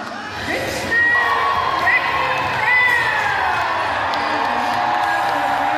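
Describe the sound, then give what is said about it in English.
About 1,000 roller derby fans cheer steadily at the Craneway Pavilion on a Saturday night as the Richmond Wrecking Bells take on the Oakland Outlaws, a dense roar of many voices with high shouts and whoops rising above it. The noise stays loud for the whole stretch. “It's Saturday night, and 1,000 roller derby fans have packed the Craneway Pavilion to see the Richmond Wrecking Bells take on the Oakland Outlaws.”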